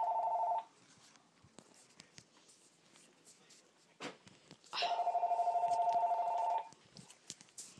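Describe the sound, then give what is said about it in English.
A telephone rings twice with a steady electronic trill, a call from phone solicitors while someone is cooking curry, a short burst at the start and a longer one near the end, with quiet clicks and faint background noise between rings. “Phone solicitors.”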